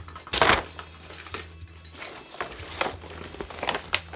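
A mobile phone drops into a paper bag with a crisp rustling thud, followed by a few softer papery crinkles and small knocks as the bag shifts, against a quiet low hum.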